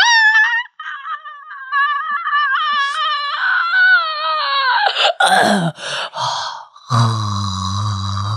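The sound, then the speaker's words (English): A woman doing an impression imitates the dolphin-like inhaling sound a man makes, with a run of high, wavering squeaks that turn into sharp, breathy inhaled gasps, ending on a lower, sustained groaning tone. “But now I'm wondering if I could still hit that like dolphin sound that he makes.”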